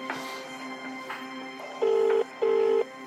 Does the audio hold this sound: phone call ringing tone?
yes